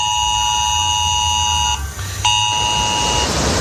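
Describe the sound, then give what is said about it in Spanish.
A loud, harsh ES-Alert emergency tone blares steadily from residents' mobile phones in San Javier and Los Alcázares, Murcia region, Spain, urging extreme caution during flooding, with stacked buzzing harmonics, cuts out briefly, then resumes before ending, with a low rumble underneath. “Ha sonado el aviso Esaler, una alerta para que se extreme la precaución en esas localidades.”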